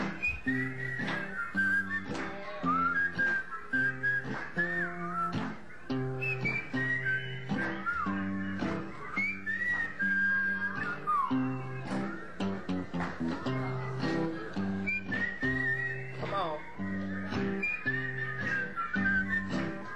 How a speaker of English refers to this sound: Whistle something. Everybody.